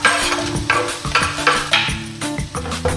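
Garlic and bell pepper sizzle in oil in a hot pan, a steady crackling hiss broken by repeated stirring scrapes every half second or so, fairly loud, with no voices.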